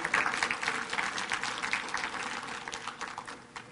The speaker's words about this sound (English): Thank you, guys. Give them a hand clap. Good job, boys.